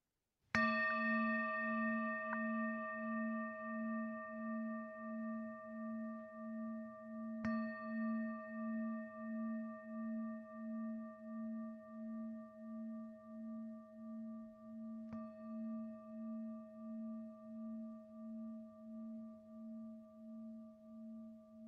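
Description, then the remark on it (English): A meditation bell is struck three times, about seven seconds apart, each strike blooming into a long, shimmering ring with a low, pulsing hum that slowly fades. No one speaks. “And as you hear the sound of the bell, trusting that, trusting all these parts that hold us together, and then coming back at the end of the bell.”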